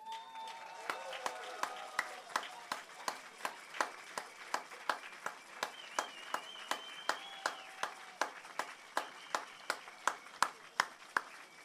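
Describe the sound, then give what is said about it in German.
Crowd applause in thanks to the women present, in a steady rhythmic beat, sharp claps falling together about twice a second for over ten seconds, with faint voices and whistle-like tones drifting underneath. “Bei all diesen Frauen und bei auch all diesen den Frauen, die heute hier sind, möchte ich mich in eurem Namen bedanken und bitte euch um einen richtig tüchtigen Applaus.”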